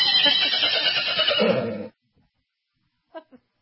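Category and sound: animal, horse neighing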